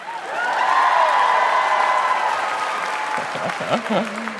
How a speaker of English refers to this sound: Round of applause if you have anxiety.